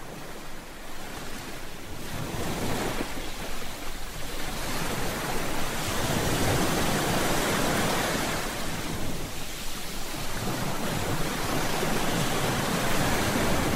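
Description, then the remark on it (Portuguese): Ocean waves roll in and crash on the shore, a steady wash of surf that swells and recedes in slow, repeating surges. The roar is loud, with no voices. “Eu não acredito que vamos ser levados ao mar.”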